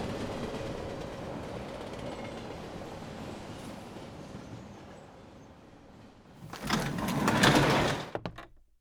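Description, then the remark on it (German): A train's steady rumble and hum gradually ease as it slows before its next stop, then a loud rattling whoosh as the conductor slides open the compartment door bursts in near the end. “Der Zug verlangsamt seine Fahrt.”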